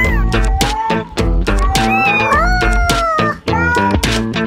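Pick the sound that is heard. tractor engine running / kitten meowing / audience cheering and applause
kitten meowing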